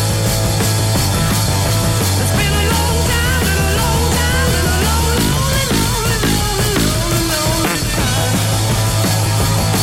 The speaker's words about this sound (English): Now, what I should do is record that so I never have to go through all the jeopardy of getting it wrong again and then put it into our jingle page of fart songs. Yes. Some of which sound like this.